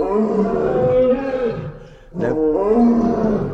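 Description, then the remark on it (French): A lion and a tiger roar together in overlapping, sustained calls, loud, with a brief pause midway before the deep roaring resumes. “Nous avons en même temps lion et tigre là. C'est un petit concert.”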